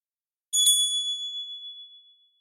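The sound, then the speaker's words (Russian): A small bell above a shop door tinkles with two quick strikes, then a high, clear ring that fades out over about two seconds. It sounds bright, with no voices. “Звякнул колокольчик.”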